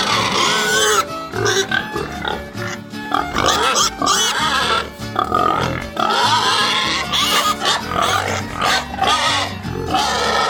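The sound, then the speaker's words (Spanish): Pigs grunt and oink loudly and continuously, several animals overlapping, with occasional higher squeals cutting through the steady, crowded chorus. “Nos enfocaremos principalmente en la crianza de los puercos.”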